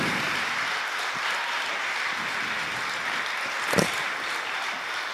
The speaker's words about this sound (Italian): Facciamogli ancora un applauso.